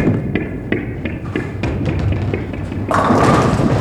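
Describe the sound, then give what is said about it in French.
A small bouncing ball comes in with a run of light, hollow taps, then a sudden louder clatter as three toy skittles set up in a pyramid all topple and rattle on until the end. “Les voilà qui s'installent en pyramide quand surgit la boule sauteuse qui les fait tous tomber.”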